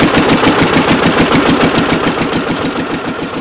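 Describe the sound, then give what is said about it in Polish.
An unusual tractor, rebuilt by the farmer to carry a sizeable group of visitors, runs on a farm in Wielkopolska, Poland; its loud diesel engine chugs steadily in rapid, even pulses that hold a constant rhythm throughout, with no voices. “Ten traktor jest bardzo nietypowy.”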